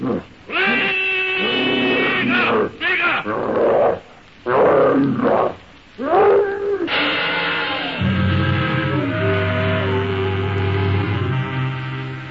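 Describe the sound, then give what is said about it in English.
A savage brute with great hairy red arms charges Tarzan with an ear-splitting shriek that rings out in several loud, harsh bursts mixed with roaring grunts, then gives way to steady, sustained droning tones. “With great hairy red arms swinging, the savage brute charges Tarzan with an ear-splitting shriek.”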